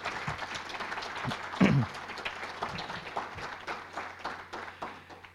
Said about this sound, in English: Please give all these people a round of applause.